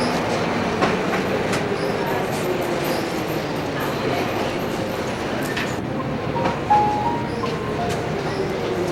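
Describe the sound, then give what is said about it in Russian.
A train rolls along the rails, its loud, steady rumble punctuated by irregular clickety-clack thumps from the wheels and faint metallic squeals, with no one speaking. “В НИИ, пока, мой поезд.”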